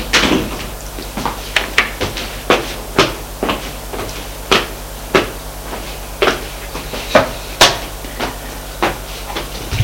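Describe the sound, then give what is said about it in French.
A long series of sharp wooden knocks on a door, about two each second and slightly uneven, over a steady low hum, with no voices. “Il frappe à la porte.”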